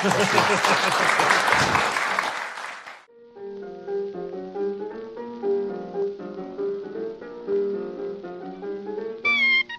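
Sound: audience applause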